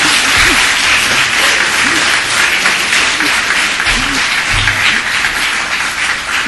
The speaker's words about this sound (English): Go ahead, you can clap.